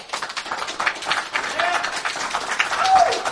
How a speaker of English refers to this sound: All right, show of hands, show King's of Fall. Hands. That was King's Fall. Okay. We'll do clapping, I guess, because it's an audio show, right? Vault of Glass for...